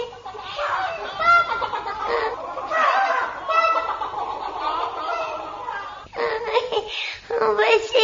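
Chicken clucking, busy and fairly loud, a dense run of squawky clucks lasting several seconds with a short break near the end before resuming.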